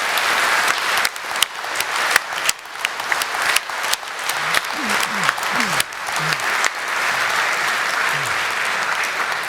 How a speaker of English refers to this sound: So can we please give the audiovisual angels a huge, huge round of applause?